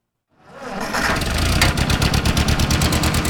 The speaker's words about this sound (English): This 1947 Ford 2N tractor is the same age as its owner